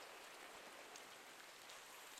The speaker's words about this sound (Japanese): あの音って気持ちいいよね。雨の音を聞くだけでだんだん何も考えたくなくなっちゃう。リラックスできるようになるよね。